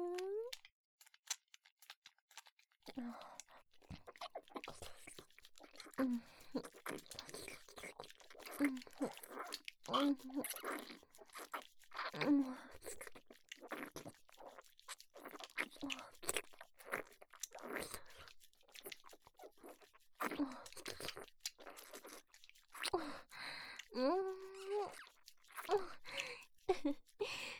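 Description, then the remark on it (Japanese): Crisp crunching as a raw green pepper is bitten and chewed, steady wet chomps repeating throughout, with a few soft vocal murmurs in between. “ほーら、おかわりでちゅよー。あーん、 ピーマンちゃん。”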